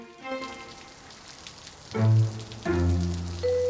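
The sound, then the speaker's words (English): Heavy rain pours down in a steady hiss throughout, joined partway by a couple of low, sustained tonal notes swelling over the downpour. “He opens the door and looks out, but sees that it's pouring with rain.”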